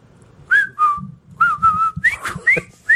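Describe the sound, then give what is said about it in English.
A person whistles the jaunty, marching tune from the film The Bridge Over the River Kwai in short, clear phrases with brief pauses between them, fairly loud, with no talking. “What was the whistling in that movie?”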